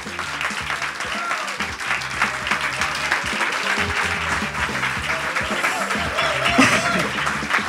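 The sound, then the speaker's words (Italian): An audience at the Auditorium Demetrio Stratos of Radio Popolare claps and cheers steadily at an evening event, dense and loud throughout, with scattered voices and whoops rising over the sustained applause. “Applauso.”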